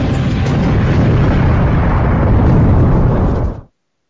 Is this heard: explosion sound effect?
yes